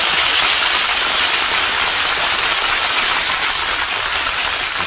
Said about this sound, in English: hear that applause? Oh, they loved you, Jane.